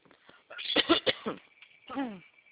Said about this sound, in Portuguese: Desculpa, eu tô com uma tosse chata.